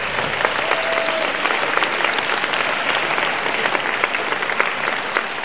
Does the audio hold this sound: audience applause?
yes